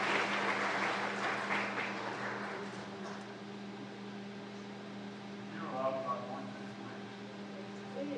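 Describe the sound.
Applause breaks out and fills the first few seconds, approving by acclamation the election of a vice-president: a dense crackle of clapping that gradually thins, over a steady low electrical hum, with faint murmuring voices later on.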